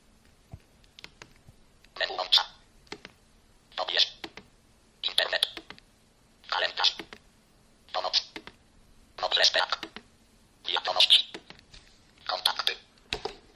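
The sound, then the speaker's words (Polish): Mobile phone keypad buttons pressed deliberately loudly while browsing the phone menu, at a steady pace, about every second or so, each press a short, fairly loud clicky burst, with faint small ticks in between and no one speaking. “I sobie obejrzymy menu telefonu. Będę specjalnie dosyć głośno naciskał klawisze, żeby było słychać.”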